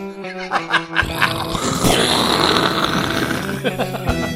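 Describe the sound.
A voice imitates a long, rumbling explosion: a rough, noisy roar swells after a second and holds for about three seconds, with growly vocal tones and grunts running through it before it cuts off.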